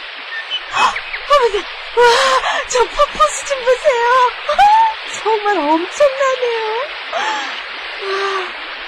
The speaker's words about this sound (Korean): 엄청난 폭포예요. 아유, 저 높은 데서 떨어지다니, 어? 무섭지도 않은가 보다. 저건 높은 곳에서 흘러나오는 사랑의 폭포란다.